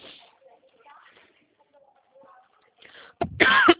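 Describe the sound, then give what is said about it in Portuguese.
Soft, faint talking during a phone call gives way to a sudden loud cough that worsens as the speaker starts talking: a short sharp hack followed by a longer, harsher coughing burst at the end. “Fala até minha tosse, gente do céu, começa a falar, piora.”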